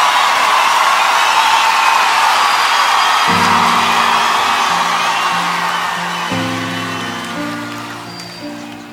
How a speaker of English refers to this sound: Listen to this. And I like the cheering at the beginning. We ought to cheer for God, right?